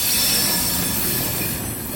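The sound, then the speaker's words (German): Freight wagons squeal steadily against track brakes at a marshalling yard, the brakes mounted between the switches to stop the wagons rolling fast down the hump: a loud, sustained high-pitched screech riding over a rumbling rolling noise, with no one speaking. “So ein Rangierbahnhof macht ziemlich Lärm, vor allem um die Bremsen, die zwischen den einzelnen Weichen montiert sind.”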